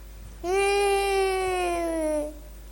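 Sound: child crying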